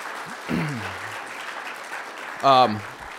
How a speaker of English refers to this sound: But if you did, please stand. We'd like to thank you. Give these people a round of applause for all they did.